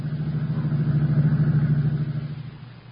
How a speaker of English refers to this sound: And as Oliver Wilson maneuvers his borrowed car along the highway, there's a self-satisfied smile on his face.